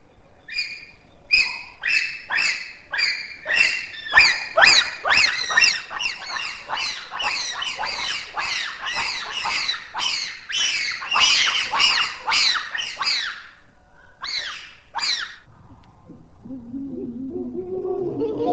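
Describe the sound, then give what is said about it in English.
A group of bonobos (Pan paniscus) and then chimpanzees (Pan troglodytes) in hoot concerts: a dense run of shrill, high-pitched overlapping hoots, a short pause, then a couple more and lower, rougher hooting rising at the end. “We start with hoot concerts by a group of individuals, first bonobos, then chimpanzees.”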